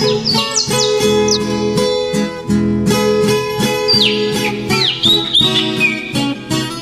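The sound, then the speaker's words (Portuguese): Small birds chirp and twitter in quick, rising bursts near the start and again later, set against a loud, steady bed of sustained music. “Caro ouvinte, vamos agora retornar às origens, mergulhar na biografia do nosso personagem, sentir o cheiro da terra roxa, apreciar o aroma do café e ouvir mais alto o canto dos passarinhos.”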